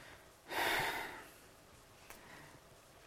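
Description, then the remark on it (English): A single airy breath sound, a breathy exhale lasting under a second with no voiced speech, imitating the divine name Yod HaVaheh said repeatedly and quickly enough to sound like breathing, followed by near silence and a couple of faint clicks. “And when you say it quick enough, Yod HaVaheh, you say it repeatedly quick enough to the point where it just sounds like breathing.”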